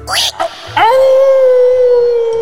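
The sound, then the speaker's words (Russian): A long, loud howl of the wolf in the Three Little Pigs tale rises quickly and then holds a steady, drawn-out tone for about two seconds, with a short breathy yip before it. “Это волк!”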